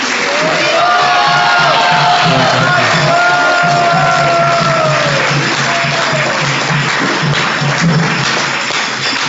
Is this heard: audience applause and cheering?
yes